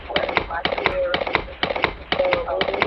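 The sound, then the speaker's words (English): Rhythmic clip-clop of horse hooves, sharp knocking clicks in quick repeating groups at a steady trotting pace, apparently made with the mouth as a vocal imitation, with faint voiced sound between clicks, presented during a phone call as riding a horse into town. “I don't know if you can hear that. I'm on my horse right now. I'm riding into town on my horse.”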